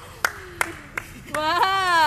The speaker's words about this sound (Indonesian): Wow, kok ada suara tepuk tangan ya? Biasanya nggak ada suara tepuk tangan.